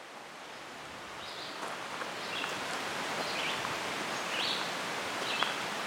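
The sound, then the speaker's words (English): Outdoor forest ambience on a spring morning at Jamaica State Park in southern Vermont, with the West River high after rain: a steady, airy rush of rustling leaves or running water, with several faint bird chirps scattered throughout and no voices. “It's a beautiful spring morning at Jamaica State Park in southern Vermont.”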